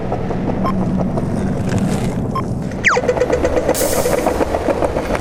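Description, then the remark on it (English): A bus engine rumbles steadily, then a sharp sliding whine cuts in midway as the engine noise grows louder and rougher. “Dude, watch out for the bus!”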